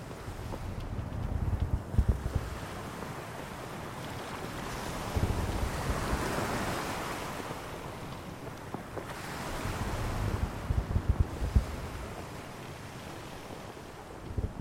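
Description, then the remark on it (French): Rough sea waves surge and crash in repeated swells while strong wind roars and buffets the microphone, a loud, continuous stormy wash with no voices, heard during a storm at sea between the Faroe Islands and Iceland. “J'ai eu le plaisir de l'avoir, l'expérience grandiose de la tempête sans être malade et de le voir ces vagues décapitées, le ciel de soufre et hurlement de la nature.”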